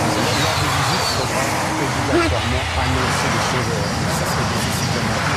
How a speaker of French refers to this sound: Et voilà, encore un train de plus.